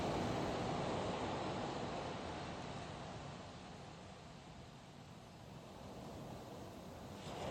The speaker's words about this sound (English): allowing yourself to relax completely, surrender to the sound of the waves.